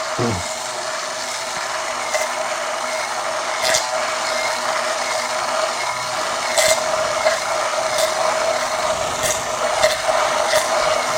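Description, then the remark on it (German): An immersion blender whirs steadily for the whole stretch, slowly at first, a constant buzzing motor drone with a grinding, churning texture and a few brief knocks as it mixes mayonnaise from an egg and oil filled to 200 millilitres in a narrow, tall measuring cup. No one speaks. “Die wird dann aber ungefähr auf 200 Milliliter Öl, mit Öl auf 200 Milliliter auffüllen und dann mit dem Schneidstab langsam zu Beginn.”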